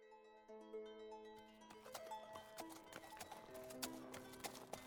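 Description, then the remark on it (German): Horse hooves clip-clop in a steady rhythm as one horse carries two riders, starting a couple of seconds in and continuing to the end, layered over sustained, tonal background music. “Beide auf einem Pferd gaben ein illustres Bild ab.”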